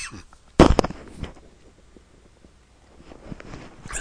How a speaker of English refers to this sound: I was wondering when I would cough. It's just 40 minutes into this thing.